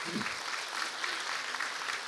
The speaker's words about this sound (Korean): 오늘 우리 초등부 유년부 아이들이 우리 함께 이 자리에 왔습니다. 대견하죠? 지금까지 정말 어른처럼 예배드렸죠? 우리 초등부 어디 있어요? 박수 받아 마땅합니다. 초등부 손 들어보세요.